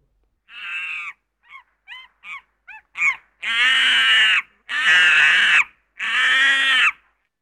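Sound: monkey screeching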